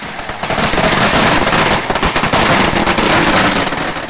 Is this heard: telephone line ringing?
no